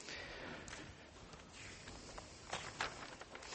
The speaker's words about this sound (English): It's always good to hear the rustle of paper, pages being turned in Bibles.